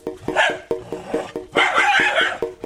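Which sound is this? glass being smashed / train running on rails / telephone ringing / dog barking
dog barking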